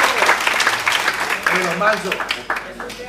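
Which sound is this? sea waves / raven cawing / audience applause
audience applause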